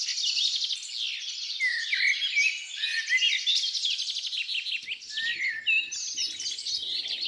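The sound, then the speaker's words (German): A dense chorus of about 20 different songbird species in a forest early in the morning, their chirps, trills and whistles overlapping continuously at a fairly loud, steady level, with no clear pauses and no voices. “Um uns herum sind ungelogen 20 verschiedene Vogelstimmen zu hören, die sich wild übereinander legen.”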